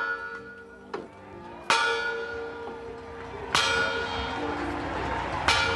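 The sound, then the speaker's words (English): Church bells peal in a celebratory ringing around 3 p.m., led from the memorial steps before President Obama's speech, with repeated strikes every second or two whose bright, ringing tones overlap and linger in a full, resonant clangor. “With the program running behind schedule, he spoke after a celebratory ringing of church bells around 3 p.m.”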